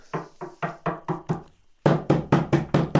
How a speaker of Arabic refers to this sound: وبعد قليل يا أصدقاء، وبينما كان يريد سالم أن يتناول فطوره، سمع طرقا على الباب.